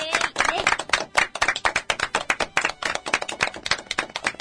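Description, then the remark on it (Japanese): Studio applause from a small group: quick, irregular, crisp hand claps running steadily for several seconds at a fairly even level, with a voice briefly audible underneath near the start. “拍手。”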